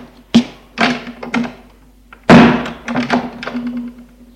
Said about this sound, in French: Le grand-père ferme la porte.